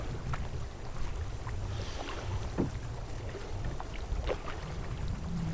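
A boat moves through water with floating ice along a barren northern coast, amid a steady low rumble and wash, with scattered sharp knocks and cracks, like floating ice bumping the hull, over light wind noise.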